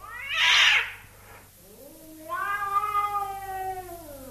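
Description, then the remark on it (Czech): A Siamese cat gives a sharp hiss, then a long, drawn-out threatening yowl that wavers in pitch, fairly loud, with no talking. “Poslechněme si na ní hlas hrozící kočky siamské.”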